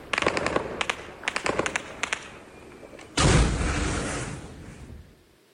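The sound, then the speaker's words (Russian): Several quick bursts of distant gunfire crackle in short volleys, then a sudden loud, sustained roar like a blast or heavy burst of fire fills the air for a couple of seconds before cutting off. “Звуки выстрелов, возможно, в попытке сбить беспилотники.”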